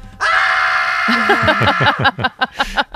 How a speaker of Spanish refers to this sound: Esta es todo lo que se me ha ocurrido. Resume bastante bien esto. Iba a decir Mayday, pero es mejor el grito.